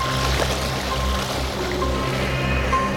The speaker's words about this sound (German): Nachdem Justus das Passwort eingegeben hatte, schnippte Oinky Hinky mit den Fingern, worauf die gewaltigen Wassermassen durch ein Abflussrohr in die Tiefe gesogen wurden.